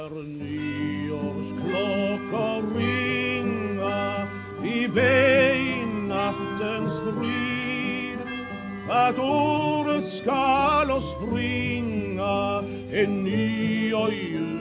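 An old 1941 Columbia gramophone record plays a sung song with instrumental accompaniment, the voice wavering with vibrato over steady backing, the sound narrow and slightly muffled, continuous and fairly loud throughout.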